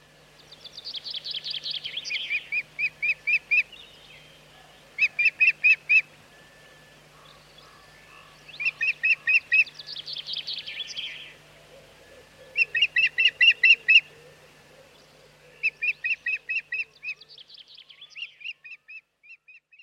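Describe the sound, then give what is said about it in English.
Wild birds call in repeated bursts of rapid, high, rattling notes, grouped into about seven phrases separated by short pauses, with no talking and a faint low hum underneath; a recording by Lawrence Shove, made available by the British Library. “This recording was made by Lawrence Shove and was made available by the British Library.”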